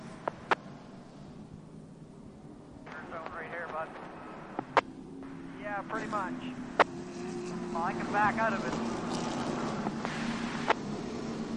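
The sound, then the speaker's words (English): Race car engines drone steadily on a track during the Ron McGilvery 150, with several engines revving up in rising sweeps, a few sharp clicks, and indistinct voices faintly in the mix. About 128 laps are done and the field is lined up side by side before the green flag. “Got some strategy happening inside these race cars”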